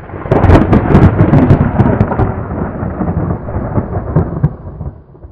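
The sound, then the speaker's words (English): A loud, sustained rumble of thunder rolls through, crackling sharply at first and then slowly fading over several seconds, with a faint patter of rain underneath. “And then I realized it was thunder.”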